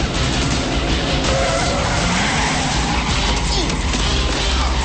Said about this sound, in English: Did you hear something that sounded like a damn plane?